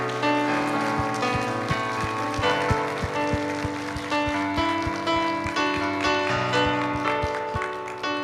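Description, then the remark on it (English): A church audience claps hands after a prayer, for those who just gave their lives to the Lord, in a steady, dense wash of applause that holds for the whole stretch, with sustained keyboard chords playing underneath and no one speaking. “Can we clap our hands for those that just gave their lives to the Lord?”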